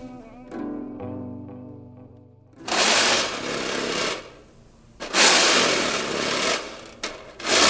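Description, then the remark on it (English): Someone alone in a recording studio scrapes the bottom of a snare drum, producing two long, loud, rasping bursts of gritty, rattling noise, preceded by a few seconds of soft, sustained tonal hum. “This recording is me alone in the studio scraping the bottom of a snare drum.”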